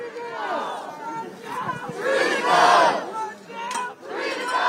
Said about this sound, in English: Hundreds of protesters gathered at George Floyd Square. There were screams of excitement and tears of joy among the protesters.